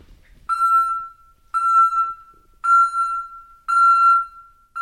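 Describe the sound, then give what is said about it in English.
A parrot named Tango mimics a construction truck's reversing alarm: four steady, evenly spaced beeps at a high, piercing pitch, each lasting nearly a second, loud and alone with no talking. “That's not a construction truck backing up. It's Tango.”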